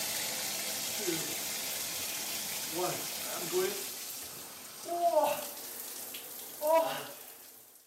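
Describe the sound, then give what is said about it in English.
Cold shower water runs in a steady hiss throughout, with a few brief, muffled voice sounds rising over it toward the end. “I gain better mental willpower to deal with all the fear and stress from my life just by taking a cold shower every morning.”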